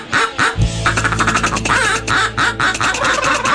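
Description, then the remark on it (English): Several turkeys gobble loudly, their rapid, throaty calls overlapping in a busy, continuous chorus with no one talking. “There the turkeys are right there. That's my Christmas turkey.”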